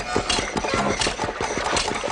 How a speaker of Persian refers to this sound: پت تلمبه آب رو روشن میکنه و وانو پر آب میکنه. پت تلمبه رو خاموش میکنه.